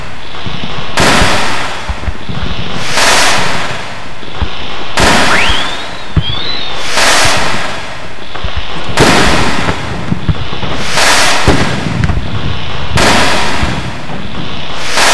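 Loud firecrackers and fireworks go off in rapid succession, sharp bangs and crackling bursts repeating every second or two, with a brief rising whistle of a rocket partway through.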